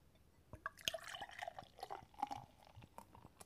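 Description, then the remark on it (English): Beer pours into a glass after the lid is popped, a steady trickle broken by crisp splashes and fizzy crackling as the foam builds, with no one speaking. “All right, so I popped the lid. Now I'm going to pour.”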